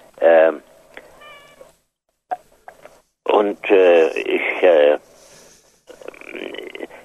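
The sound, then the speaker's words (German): A domestic cat meows loudly while being petted: one short cry, a pause with faint rustling, then a run of longer, drawn-out meows, ending in softer, noisier sounds. “Und ich bin vor allem damit befasst, meine Katze zu streicheln in diesem Moment, was immer ein lebensverlängerndes Kontinuum ist für einen Menschen in meinem Alter.”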